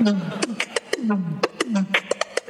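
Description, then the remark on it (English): Someone vocalizes an invented beatbox sound effect called 'the pips', a string of short 'pip' noises with falling pitch sweeps and sharp clicky bursts, repeated rapidly with no words. “So don't ask me why, I named it the pips. I don't know why, it just sounds like a pip to me, and it sounds like this.”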